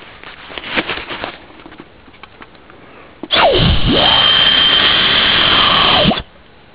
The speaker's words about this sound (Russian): Они прицепляются либо к машине, либо к мотоциклу. И когда в них попадает ветер, они издают ультразвуковой сигнал, который распугивает всех животных впереди мотоцикла или машины. И вот сейчас, как они звучат примерно, я попробую это сделать.